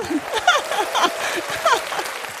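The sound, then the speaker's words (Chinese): Steady crowd applause fills the whole stretch, a dense crackle of many hands clapping, with scattered whoops and cheering voices rising over it. “给人家一个后掌声啊。”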